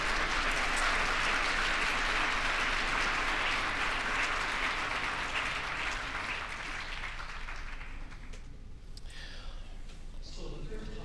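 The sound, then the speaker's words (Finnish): An audience applauds a simultaneous interpreter, a dense, steady wash of clapping that holds for several seconds, then thins out and fades as the last few claps die away. “Ja hän on todella nolo, jos annamme hänelle aplodit.”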